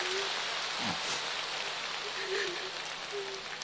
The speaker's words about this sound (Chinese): 鼓掌